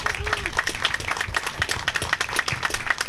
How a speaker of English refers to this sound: So please, for our employees and the staff here at Red Rock, please let's give them a round of applause too.